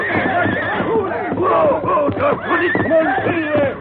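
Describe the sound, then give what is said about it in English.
Silver, the Lone Ranger's great white stallion, whinnies shrilly and snorts in agitated bursts as he rears to his hind legs, loud, the rising and falling neighs repeating over about four seconds against a busy, noisy background. “He reared to his hind legs. The other horses, frightened, jumped and bucked.”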